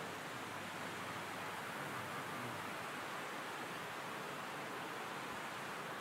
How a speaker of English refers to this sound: Thank God for the rain.